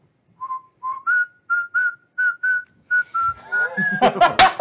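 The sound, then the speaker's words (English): A whistled tune of short, evenly spaced notes that thickens into several overlapping whistles as a group moving closer all begins to whistle, ending with a burst of sharp, clattering knocks as they clack their strikes together. “And as they're moving closer, there's they all begin to whistle.”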